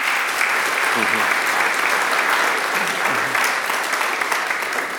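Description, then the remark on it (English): A spontaneous round of applause from a church audience congratulating the Boys Brigade team on coming second in the UK finals, steady dense clapping at a constant loud level throughout, with faint voices murmuring underneath. “You've heard the spontaneous round of applause.”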